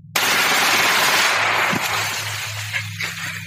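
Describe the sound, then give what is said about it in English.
A sudden, loud burst of rapid gunfire as cartel gunmen unload their weapons on a victim erupts and rattles on for over a second, then drops off into fainter scattered cracks and a lingering low hum. “After this brief respite, the cartel unload their weapons on the victim.”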